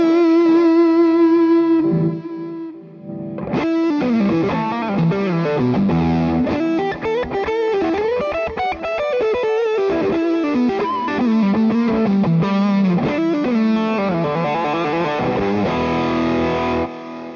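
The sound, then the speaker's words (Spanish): A distorted electric guitar plays a flowing lead line with sustained, singing notes and bends, washed in delay and reverb added through a live preset on an HX multi-effects unit. Loud, with no talking. “Y puedo agregar el delay cuando yo quiero. Si lo quiero agregar así acá. Ahí está, el reverb, ahí está. Y luego el Nero, que es mi lead tone, ahí está.”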